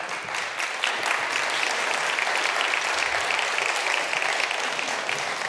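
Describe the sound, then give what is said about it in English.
Steady audience applause, a dense wash of many hands clapping at an even, sustained level for several seconds without pause. “Y'all are so much nicer than Wes Chase because I didn't get any applause for that.”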